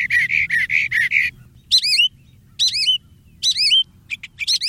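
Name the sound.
mockingbird singing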